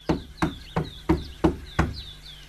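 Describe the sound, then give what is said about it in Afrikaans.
A boy knocks six firm times on a wooden front door in a steady, even rhythm, solid, with faint birdsong chirping in the background. “klop aan die deur.”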